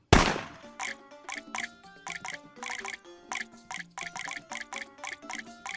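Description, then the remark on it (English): Water drips steadily from two faucets in a quick, slightly irregular patter of ringing plinks and plops, sometimes overlapping as both drip together, with no talking; faucet one lets fall 10 drops and faucet two 13 drops. “The faucet number one has emitted 10 drops. The faucet number two has emitted 13 drops.”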